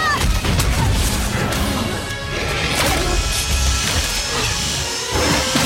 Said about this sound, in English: This is the T-Rex biting at King Kong. Oh, cool.